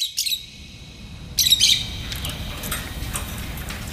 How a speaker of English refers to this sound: Orphan Black Echoes opens with Kristen Ritter's character waking to the sounds of birds chirping. They're trapped in a cage, and though she doesn't know it yet, she is too.